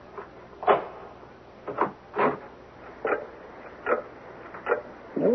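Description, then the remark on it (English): The lock of a door marked Clock room being picked with a nail file: a series of short scraping, rattling clicks at irregular intervals, fairly clear, with no voices. “Hey, are we going in? Give me a nail file, cuz.”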